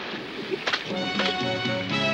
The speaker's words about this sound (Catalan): Es posa a ploure i un salt d'aigua davalla per un pendent.